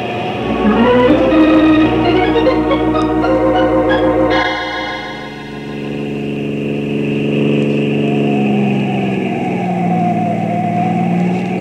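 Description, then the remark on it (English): A car engine roars loudly at speed during a chase, revving hard with shifting pitch as it races along, a continuous, aggressive drone with a sudden gear change partway through, no voices present. “That patrol car's following me. But I'm gonna shake him and get away.”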